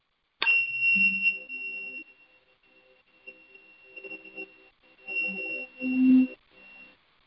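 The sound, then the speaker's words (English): A meditation awakening bell is struck once, giving a sharp attack and then a steady, high ringing tone that sustains for several seconds, with some soft low rumbling sounds partway through. “To hear the awakening bell.”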